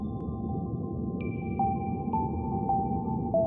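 Calm ambient music: steady held tones over a deep rumbling bed, with soft sonar-like pings that ring out every half second or so, echoing gently.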